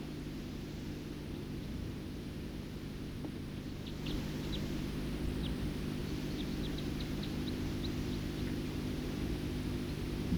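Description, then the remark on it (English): A songbird sings a series of thin, high chirps and short notes, repeating irregularly over a steady low rumble of background noise, with no one talking. “Song of the first bird.”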